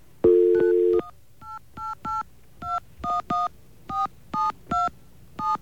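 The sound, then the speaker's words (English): Telephone touch tones pressed on a keypad as a door slams: a longer steady tone, then about a dozen short, fairly loud keypad beeps at an uneven rhythm, each starting with a sharp click. No one speaks. “And I've discovered through a couple hours of playing around today and things I really shouldn't be playing with, that you can use that slamming door to your advantage by hitting touch tones as the door slams.”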